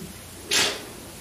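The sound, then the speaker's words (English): A single quick sneeze, a short, breathy, hissing burst that rises sharply and fades within a fraction of a second against a quiet background, with no one talking. “Bless you.”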